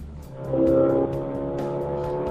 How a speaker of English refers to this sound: Are you a car guy? Is that the kind of thing that kind of make your heart race? Listening. Hearing vroom vrooms and stuff. Yeah. The racing, huge, powerful engine. It's cool. I like it. He has a turbocharged 2-liter engine with 370 horsepower,